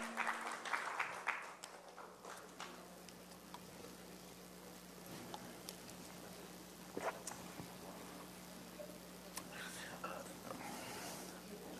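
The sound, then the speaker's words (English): A church audience applauds the worship team, a dense, steady patter of many hands clapping that holds for about twelve seconds at a fairly soft level, with a low steady hum underneath. “You can give them an applause.”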